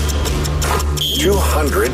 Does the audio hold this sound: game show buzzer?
yes